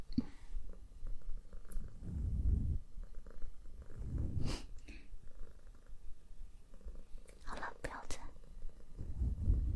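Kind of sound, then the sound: animal, cat purring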